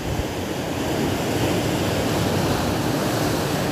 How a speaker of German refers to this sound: Lausche dem Meer, lausche den Wellen, spüre die Kraft, verbinde dich mit dem Element Wasser.